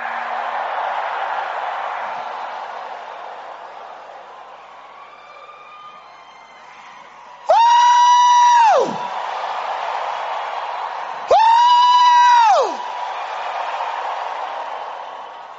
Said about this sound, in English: I see somebody's captivity turning around. If you are the one, give the Lord a turnaround shout.